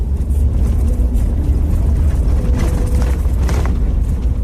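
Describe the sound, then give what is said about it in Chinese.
A four-wheel-drive vehicle's engine rumbles steadily and loudly from inside the cab as it drives a narrow, winding mountain road in the high country of East Gippsland, Australia, with low-frequency drone and occasional rattles and bumps, no voices. “汽车在山路上开起来非常的颠簸。”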